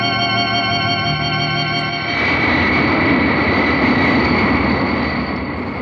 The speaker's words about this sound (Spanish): Estamos, pues, próximos a aterrizar en el aeropuerto de Orly, en París. El gigantesco jet inicia la maniobra de descenso sobre el aeropuerto de Orly.